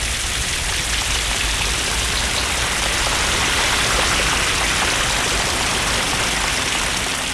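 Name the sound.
rain falling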